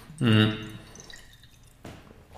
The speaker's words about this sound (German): Ich nehme jetzt mal ganz kurz einen Schluck Wasser, weil mein Hals wird ganz trocken.